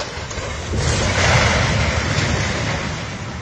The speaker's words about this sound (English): This is the sound of a Tijuana apartment building crumbling to the ground.